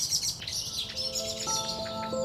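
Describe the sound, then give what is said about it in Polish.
Agitated birds call harshly over one another, a blackbird and a fieldfare in a fierce fight, their chattering, scolding notes continuous, with a few clearer tonal calls near the end. “Bójka kosa z kwiczołem, niesamowicie zażarta.”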